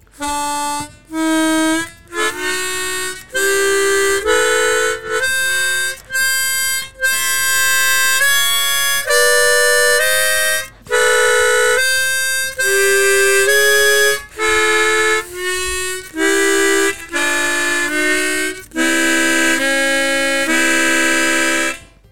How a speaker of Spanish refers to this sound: Una armónica profesional, grandota. Sí. No había visto una de esas. Ah, eso está chévere. Entonces, ¿cómo suena esa? Bueno, por ejemplo, esta tiene semitonos que esta no puede dar.